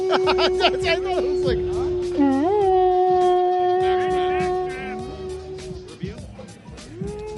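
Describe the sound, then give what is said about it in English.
A fake toy horn is blown, blaring one long, steady, slightly wavering loud note for several seconds, with a brief pitch dip partway through before it trails off amid background commotion. “Oh, let me, can I blow it? Oh, it's a fake horn.”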